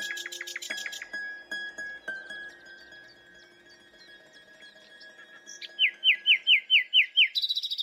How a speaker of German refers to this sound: Schone sang die Nachtigall, also die Nachtigall singt im Hintergrund als verschwiegene Zeugin eine Stell dich einst.